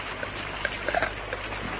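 rain falling

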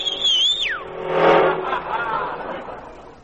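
taxi cab speeding past

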